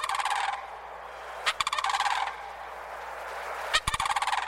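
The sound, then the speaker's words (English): Mississippi sandhill cranes give loud, rolling, rattling calls in several bursts across wet pine savannas near the Gulf Coast, each a harsh trumpeting trill, separated by brief pauses and a few sharp clicks, with no voices. “On more than one morning, I've heard the arrival of these cranes, the slap of their substantial wings and the echo of their almost prehistoric calls across the wet pine savannas near the Gulf Coast.”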